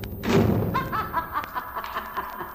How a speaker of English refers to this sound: As Wonder Woman steps inside to lead the prisoner out, the door slams shut behind her.